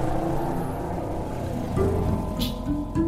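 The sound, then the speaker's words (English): Steady low rumble of street traffic, tour buses, taxis and scooters, in the congested neighborhood around La Sagrada Familia in Barcelona, Spain, with engines idling and passing, a brief hiss or swish partway through, and no voices standing out. “La Sagrada Familia, designed by Antoni Gaudí, draws so many people to see it that the neighborhood is congested with tour buses and taxis and scooters.”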